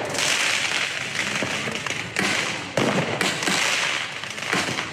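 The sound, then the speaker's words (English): Fireworks fired by protesters at police during a night of street protests in France crackle and pop in rapid, overlapping bursts. Several sharper bangs stand out against a dense, noisy outdoor backdrop that stays loud throughout. “Protesters fired off fireworks at police.”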